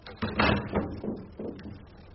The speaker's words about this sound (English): Close the door.